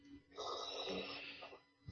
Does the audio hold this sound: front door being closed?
no